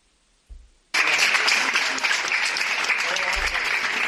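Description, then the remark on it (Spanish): Hospital staff burst into sustained, loud applause after a brief low thud, sending off a patient being transferred out of the ICU; the dense clapping continues steadily to the end with a few voices mixed in. “ese día en que por fin salía de la UCI, lo trasladabais de esta manera, lo despedíais con estos aplausos.”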